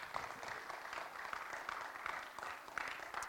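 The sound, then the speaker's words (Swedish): An audience at a church service applauds again for the leaders and children who performed a drama: a dense wash of many hands clapping at a fairly even level for a few seconds, with no voices standing out. “Kan vi inte ge dem en stor applåd igen?”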